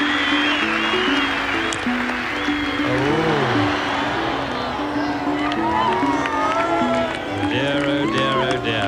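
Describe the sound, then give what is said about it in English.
A large outdoor golf gallery applauds and cheers a player walking up the 18th fairway, a dense, steady roar of clapping with whoops and shouted voices rising over it from start to finish. “he's just waiting for the applause for Seve walking up the 18th fairway to cease”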